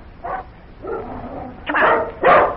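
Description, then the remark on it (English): A dog barks in a few short, uneven bursts while jumping up on a person and keeping him from getting up the steps, with a whiny, drawn-out sound in between. The last two barks are the loudest and sharpest. “buddy won't let me get up the steps. Oh, that dog.”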